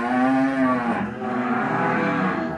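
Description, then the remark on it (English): Salers breed beef cattle low loudly in a barn on a farm in Marcoulès, France, one long drawn-out moo followed by overlapping calls from other cows in the herd of 76, echoing. “cattleman Sébastien Robert opens his barn to show us his Salers breed cattle”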